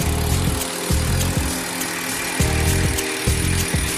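A pneumatic impact wrench rattles in loud, rapid bursts as it drives nuts onto bolts, several short hammering runs separated by brief pauses, with no voices.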